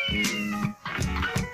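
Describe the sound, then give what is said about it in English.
Milkman's cat yowls loudly in two drawn-out, wavering cries separated by a brief pause, the strained, harmonic wails rising into a caterwaul. No voices accompany the sound. “There's Milkman's cat being abused.”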